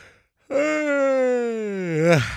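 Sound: yawn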